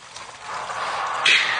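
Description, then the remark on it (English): Steady running water trickles and splashes like a small brook, a continuous bright rushing that swells slightly, with a sharper splash near the end. No voices. “Sounds like a brook. Running down a hillside.”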